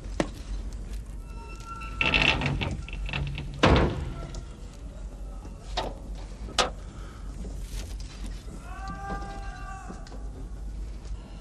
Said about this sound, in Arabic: أغلق الباب.